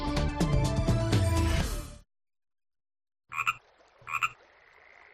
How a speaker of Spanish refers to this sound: Las ranas no croan, cantan.